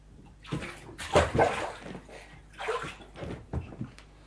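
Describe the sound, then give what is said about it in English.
Bath water sloshes and splashes in several uneven bursts as a child climbs out of the bath, spilling onto the bathroom floor, fairly loud, with brief pauses between the surges and no talking. “Soaked that bit of the bathroom. You have to be more careful in the water.”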